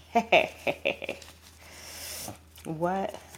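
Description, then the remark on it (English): Homemade paper flashcards being handled: a handful of quick, soft taps and flicks, then a longer dry rustling shuffle, followed by a brief murmured voice. “I have my flashcards that I made out of paper right here.”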